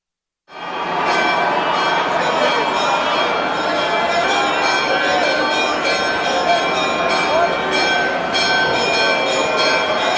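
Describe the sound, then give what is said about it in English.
Loud, continuous pealing of church bells from the newly renovated edicule in the Church of the Holy Sepulchre in Jerusalem begins after a brief silence, many overlapping strikes blending into a dense, ringing wash of bright metallic tones that holds steady throughout. “Do you hear that noise? That is the sound that comes from the newly renovated edicule located in the Church of the Holy Sepulchre in Jerusalem.”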